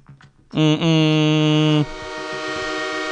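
A loud train horn blares in two close blasts, a rich chord held for over a second, then cuts off, leaving the steady rumble of a rolling train underneath.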